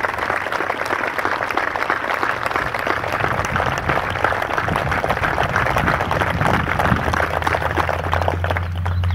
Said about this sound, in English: Your ability to get these planes ready to fight directly saved American lives. Let's have a round of applause for our ammo, weapons, and maintenance crew.